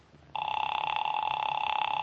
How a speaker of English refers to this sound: I'll try it just once more. Ah, it's ringing this time. At last.